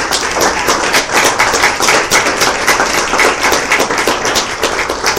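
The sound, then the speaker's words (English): A crowd applauds students at an academic event, many hands clapping in a dense, sustained patter at a strong, even level for several seconds, with no voices heard. “So let's have a round of applause for our students.”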